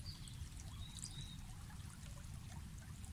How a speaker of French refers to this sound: Au milieu serpente un petit ruisseau dont l'eau est limpide et transparente. Vous vous approchez de ce ruisseau et vous asseyez sur sa berge, les pieds dans l'eau fraîche.